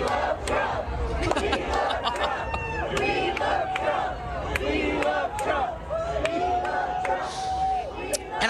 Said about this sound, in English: This is what the crowd around him was chanting.